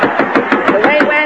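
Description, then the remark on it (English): A quick, steady series of about eight sharp, loud knocks on a door, with a faint voice-like tone humming underneath; the actor Roland Young is at the door of the Texaco canteen. “Say, somebody's at the door.”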